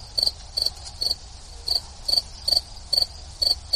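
Crickets chirping from a sound machine, a steady series of short, high-pitched trills repeating about twice a second over a soft low hum, with no voices.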